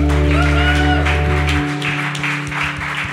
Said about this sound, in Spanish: otro aplauso a él.